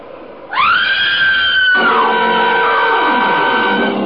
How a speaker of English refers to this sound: Now, look, get over there inside the barn and scream. Long and loud, huh? Scream? Yeah, it's our only chance.